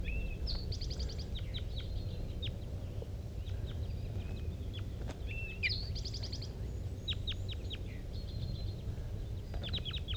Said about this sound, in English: More wild birds are coming around. Another flock is coming from the bottom of the hollow.